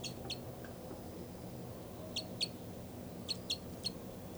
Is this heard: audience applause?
no